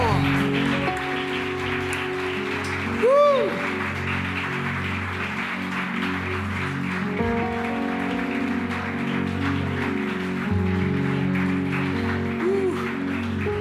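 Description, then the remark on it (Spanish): A church audience applauds Christ in a steady, dense patter of many hands that carries on for over thirteen seconds, with sustained keyboard chords and low bass notes playing underneath. “Dale bien fuerte ese aplauso a Cristo.”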